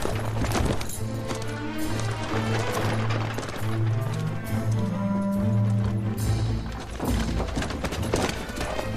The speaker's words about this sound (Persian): کاملا مطمئنم از دوتا رودخونه گذشتیم. وقتی از روی یه پل سنگی و یه پل چوبی میگذشتیم شیهه اسبا رو شنیدم.